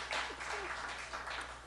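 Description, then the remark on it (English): A brief spell of light, scattered applause from a small group for an answer just given, soft and steady without any voices over it. “Well, let's hear a little applause.”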